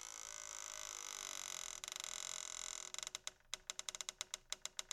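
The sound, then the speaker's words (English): A door creaks open slowly and loudly, a sustained groaning squeal that breaks into a series of rapid, stuttering creaks near the end. No voices are present. “After ringing the bell, the doorknob slowly turned, and the door opened with a loud creak.”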